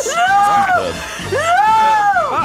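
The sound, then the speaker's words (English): A voice performs two long, loud horror-style screams as a sound effect, each rising to a high, strained pitch and then falling away, with a brief gap between them. “If I do some sort of screaming and post-punching now, you could slot it in throughout the episode.”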